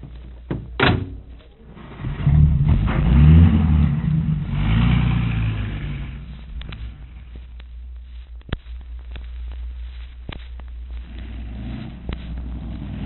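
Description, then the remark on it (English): A car door slams shut, then an engine starts up and revs loudly, rumbling low as the vehicle pulls away and drives off, with a few clunks and rattles along the way. “Now, here's the car. Hop in.”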